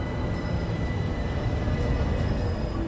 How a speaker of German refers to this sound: Der aus Dresden kommende Regionalexpress 4412 fährt pünktlich ein.